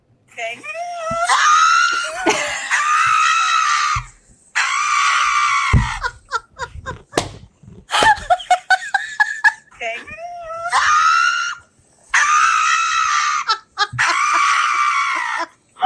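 A real dog, not dubbed, screams in panic, letting out loud, high-pitched, human-like wails in about six long bursts, with brief gaps and scattered clicks and yelps between them.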